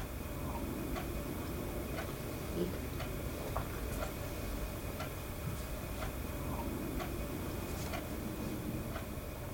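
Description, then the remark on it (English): A clock ticks steadily, about once per second, its sharp clicks fairly faint against a constant low rumbling background noise. “And I remember the clock ticking in the background, adding to the tension.”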